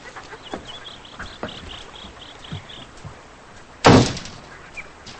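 A front door shuts with one loud thud near the end as a woman steps inside, after a stretch of quiet room tone with faint, rapid chirping and a few soft knocks.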